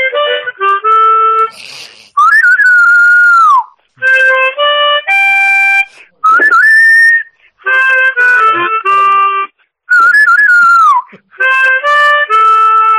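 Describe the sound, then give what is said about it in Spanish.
A loud whistled melody with swooping, wavering notes trades short improvised phrases back and forth with a harmonica in a call-and-response pattern, recorded on a mobile phone, with no talking. “Porque también haces el silbido ese que haces tuyo, ¿no?”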